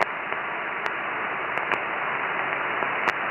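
Steady hiss of amateur radio receiver static at a noise level of strength 6 fills the whole stretch, loud and even, broken by a few brief sharp crackles and clicks. No voices come through.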